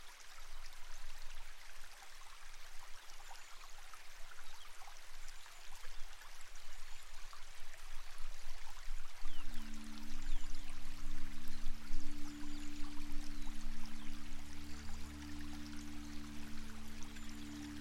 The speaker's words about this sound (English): We begin a long time ago in the British countryside, where streams weave through the rolling green hills.